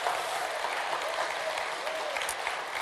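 A steady wash of audience applause, many hands clapping at once in a dense, continuous patter that holds at an even level throughout without voices standing out.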